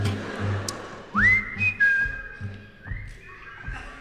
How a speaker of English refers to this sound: Everybody whistling again.